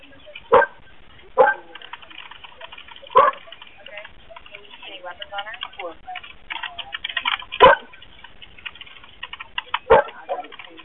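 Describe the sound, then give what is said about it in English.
Dogs bark outside in the yard in sharp, scattered bursts, about five barks spread irregularly over several seconds, with muffled voices and faint background noise in between. “And those dogs have been like outside in the yard because like the dogs go outside.”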